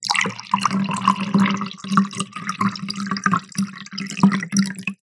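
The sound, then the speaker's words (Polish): Cold tap water pours steadily into a drinking glass for a test, a continuous splashing gurgle with a bright sound and no talking over it. “I zimna woda z kranu. Dobra, zabieramy się za test.”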